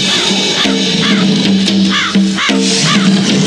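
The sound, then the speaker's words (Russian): Several crows caw loudly, their harsh calls repeating in quick succession and overlapping into a continuous, raucous chorus with no pauses. “Меня преследуют. Не больно. Вороны.”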